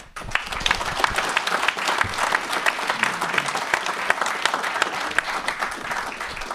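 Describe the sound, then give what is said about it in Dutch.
Warm, sustained applause from a group thanking a board member who is stepping down after many years, a dense steady patter of many hands clapping at even loudness for several seconds, with no talking over it. “omdat jij aftreedt, willen we je inmiddels een hartelijk klaterend applaus ontzettend bedanken voor al die jaren.”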